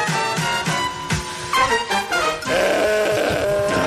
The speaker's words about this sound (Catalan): Està cantant la... La sintonia, la cabra. Cabralunya Informació.